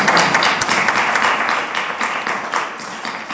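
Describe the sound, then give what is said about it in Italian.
Steady audience applause at a book presentation in Legnano, a dense crackle of many hands clapping at an even, fairly loud level that holds for a few seconds without voices. “Fatemi un applauso allora.”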